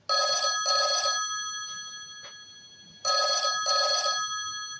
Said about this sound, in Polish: W pewnym momencie z zadumy wyrwał ich głośny dźwięk telefonu.